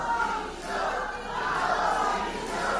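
A crowd in Valencia shouts 'Mazón dimisión' in loud, continuous unison as Mazón was about to speak at the opening of the Vocational Training Congress, voices merging into a dense roar that swells and dips in a steady rhythmic pattern without pause.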